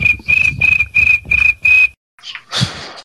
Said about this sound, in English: Oh, wait, where's the cricket chirp sound? Hold on. Dang it. Nope, there it is.